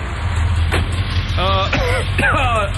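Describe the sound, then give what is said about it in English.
A car engine rumbles steadily in a garage with the door closed, a low continuous drone, while a voice-like sound with shifting pitch rises over it near the end. “Well, Hugh, I figured we'd just toss him in the garage. Start the car and close the door.”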